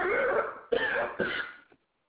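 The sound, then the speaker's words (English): Three harsh, raspy coughs follow one another in quick succession, loud, each burst rough and throaty, with no talking around them. “Start coughing.”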